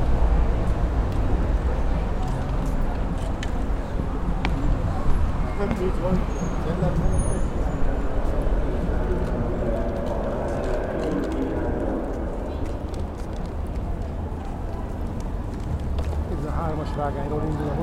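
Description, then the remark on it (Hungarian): Busy railway station hall ambience: a steady wash of crowd murmur, footsteps and rumbling movement echoing through a large space, with indistinct voices throughout and no single sound standing out. “A 13-as vágányról indul a vonat. És ott látsz bent vonatot?”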